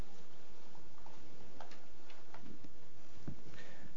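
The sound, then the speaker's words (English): An alarm clock ticks steadily, its sharp, regular clicks repeating over a faint background hiss, with no voices present. “We have that happen to us just about every morning, except we use an alarm clock.”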